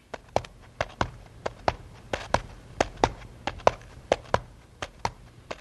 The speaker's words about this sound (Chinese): 醒来的时候，一心盼望路过的人能够救他。不一会儿，他听见了脚步声。